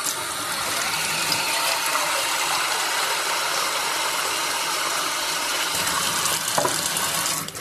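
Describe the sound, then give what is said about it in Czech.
One to two liters of water pour steadily into a large pan holding 7 or 8 tablespoons of baking soda, for cleaning jewelry; a continuous rushing hiss lasting several seconds with a few faint clinks near the end. No one speaks. “Dok se šporet greje, mi ćemo u veliki tiganj staviti 7 ili 8 stupenih kašika sode bikarbone i liter do 2 vode.”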